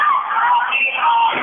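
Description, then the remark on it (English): A basketball crowd cheers for the Eagles during a timeout with about two seconds left, in a loud, steady roar, with shouts and yells blending into one continuous wash of noise that swells slightly near the end. “They're cheering for the Eagles. Everyone's cheering for the Eagles.”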